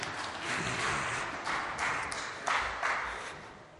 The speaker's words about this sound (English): You can sit down. Let's give these two another big clap. Thank you very much.